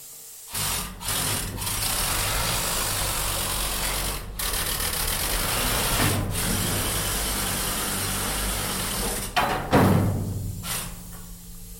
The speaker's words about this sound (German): Man kann fahren, hat einen Motor zum Fahren und hat einen Motor für die Schaufeln. Und das tönt in etwa so. Das ist also sehr laut.